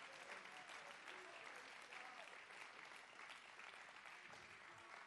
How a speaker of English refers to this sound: Let's clap our hands and give God a shout of praise right now.